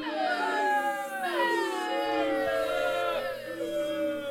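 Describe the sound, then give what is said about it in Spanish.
A crowd boos loudly and steadily for about four seconds, many voices holding low, droning jeers whose pitch wavers and slides downward, with no one speaking. “Muy bien, pues ahí va el abucheo de la semana.”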